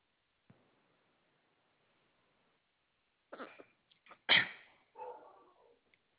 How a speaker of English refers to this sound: I hear dogs barking, sir. What kind of dogs do you have? Oh, it's a border collie, lab mix. Oh, okay. Big dog. Oh, well, not too big, about 45 pounds.